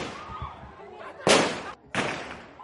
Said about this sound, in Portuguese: De seguida, agentes da polícia dispararam para o ar para dispersar a crescente multidão antes de colocar Stella Nyanzi num carro e levá-la de volta à prisão.